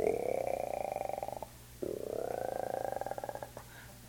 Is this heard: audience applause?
no